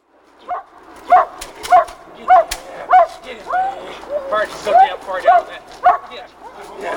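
A dog growls and snarls in a series of short, forceful bursts, roughly a dozen in quick uneven rhythm, loud and close throughout.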